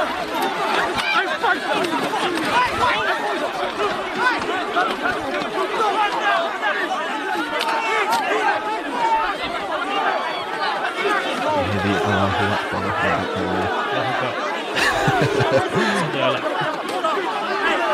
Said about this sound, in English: So, we've got the final clip here of the actual violence with the police here. And as you can see, they're holding off a very large crowd, and there's lots of police officers there. It's quite violent.